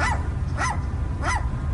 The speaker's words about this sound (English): So this guy's filming this seagull, and it sounds... It sounds like a little chihuahua. Yeah, listen.